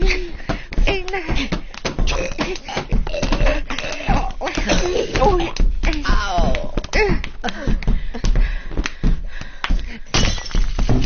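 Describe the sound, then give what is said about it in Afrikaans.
An ornament breaking: a loud, dense run of sharp cracks, thunks and shattering clatters that keeps going for about eleven seconds, with bits of voice mixed into the din. “Dit was 'n dier ornament.”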